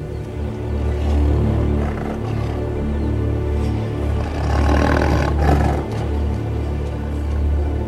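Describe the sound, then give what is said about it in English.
A tiger roars in a deep, rumbling growl that swells and sustains for several seconds, rough and guttural with a gravelly low-pitched texture, loud and unbroken with no one speaking. “The tiger knows who rules this part of the jungle.”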